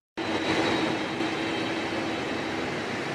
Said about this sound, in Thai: ครับนั่นคือเสียงเครื่องบิน Air Force One ที่ประธานาธิบดีบารักโอบามาใช้เดินทางไปยังโปแลนด์